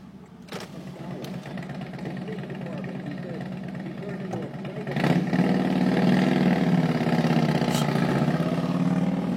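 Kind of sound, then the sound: vehicle, motorcycle engine passing by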